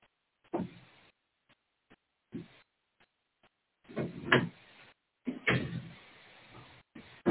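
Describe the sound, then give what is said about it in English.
A door being closed, with a few scattered thumps and rattling handling noises building to a couple of heavier clunks, and no voices in between. “I have a dear old cat that is my buddy, but if I don't close that door, he'll make a lot of noise.”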